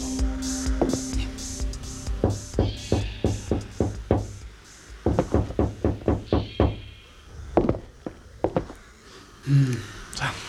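Knocking on a glass front door from a veranda on a sunny morning: several bursts of quick, sharp raps, fairly loud, with brief pauses between rounds and a faint hum underneath.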